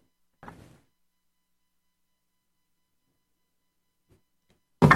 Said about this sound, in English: there's somebody at the door, maybe downstairs.